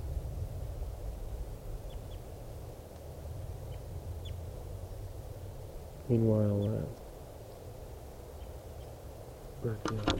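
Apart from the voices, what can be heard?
captured bird calling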